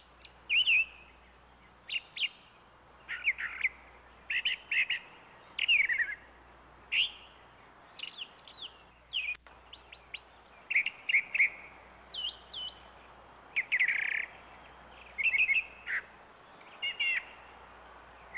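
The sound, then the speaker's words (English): A brown thrasher sings a long, steady string of varied, bright phrases, each brief and some repeated, delivered one after another with short pauses, fairly clear over a faint low background hum. “The brown thrasher is a cousin of the mockingbird.”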